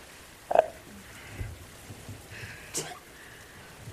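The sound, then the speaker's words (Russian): A woman sneezes once: a brief sharp voiced burst followed by a hissy exhale, fairly quiet against a soft, rustling outdoor background. “Будь здорова.”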